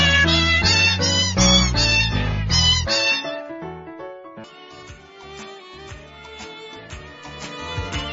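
Cat meows pitched into a bouncy rendition of the Christmas song Jingle Bells, loud and rhythmic, with quick repeated meow notes at first, then a fuller musical arrangement continuing beneath them.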